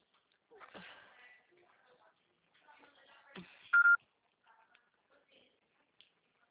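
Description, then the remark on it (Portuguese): A telephone call signal: a single loud, steady electronic beep sounds briefly partway through, surrounded by faint clicks, rustles and handling noises, with no answer on the line. “Chamar, chamar, ninguém atende”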